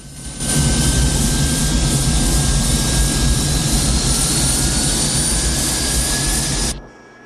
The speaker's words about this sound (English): At the airport, a KLM plane taxis slowly onto the runway.